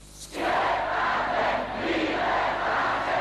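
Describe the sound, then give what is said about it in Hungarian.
A crowd of tens of thousands in Temesvár (Timișoara) chants "Szabadságot!" ("Freedom!") in unison during the 1989 revolution, a dense roar of many voices that swells and holds steady, loud and sustained throughout with no single speaker standing out. “Szabadságot! Ezt skandálta a több tízezres tömeg Temesváron, ahol a forradalom Tőkés László lelkész lakása elől indult meg.”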